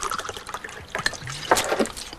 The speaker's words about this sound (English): He pours more whiskey into the glass and drops surgical instruments into it.